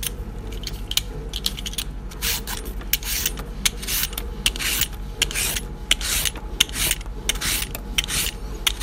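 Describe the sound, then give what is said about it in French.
Parsnips being peeled: a run of quick, rasping scrapes in an uneven rhythm, bright and crisp, over a steady low hum, with no one speaking. “Pour commencer la purée, on va prendre les panais, couper les extrémités de ces panais et puis on les épluche comme on épluche des carottes.”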